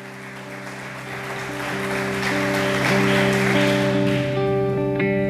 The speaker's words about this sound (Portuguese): Então aplauda ao Senhor.